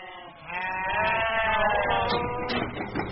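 A sheep bleats loudly, one long wavering cry stretching across the whole few seconds, with a busy farmyard murmur underneath, on Mario Dackert's Golden Valley Farm, a dairy sheep farm an hour north of Fresno in California's Central Valley, where 500 sheep are being milked.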